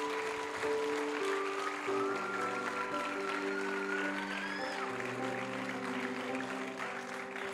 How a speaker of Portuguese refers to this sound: Se você orou isso com fé, aplauda Jesus aí onde você está.